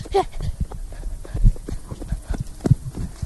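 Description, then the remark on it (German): Pig hooves patter in a quick, uneven run of soft thuds at a place with many pigs, a few steps landing harder than the rest over a low outdoor background. “Und dieses Tritt waren wir nicht. Das waren die Schweine.”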